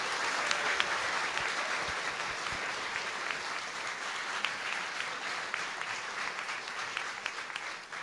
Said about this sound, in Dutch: En dan, nu iedereen geïnstalleerd is, verklaar ik de kinderburgemeester en de kindergemeenteraad als officieel beëdigd. Applaus voor iedereen.